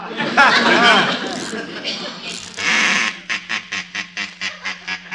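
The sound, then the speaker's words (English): A wind-up mechanical toy duck in a toy department quacks about eight times in a quick, evenly spaced run over a low steady hum, after a few seconds of busy voices and squawking. “A mechanical duck must be kept in motion at all times. Yes, Mr. Hargrave. Then wind it up. Remember our slogan, keep 'em quacking.”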